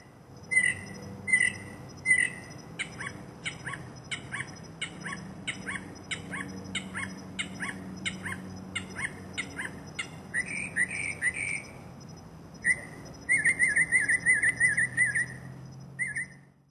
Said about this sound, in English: It was usually just one male bird cycling through dozens of calls, boasting its music collection to any female mockingbirds and curious humans